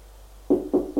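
Three firm knocks on a door in a steady, quick rhythm, each a dull, woody thud that fades briefly, following a moment of near silence. No one speaks.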